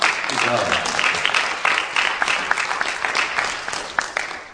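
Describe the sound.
A crowd applauds steadily for a few seconds, a dense, even patter of many hands clapping at once, with a faint voice briefly audible underneath at the start.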